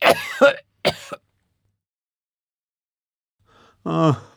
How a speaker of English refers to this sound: I have a really bad cough. I'm coughing all the time.